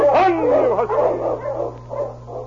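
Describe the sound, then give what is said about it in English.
Several dogs howl and yelp together, their wavering, sliding cries overlapping in a loud, continuous chorus for a couple of seconds over a steady low hum, with no talking. “These dogs of mine have had a hard trip today and they need rest.”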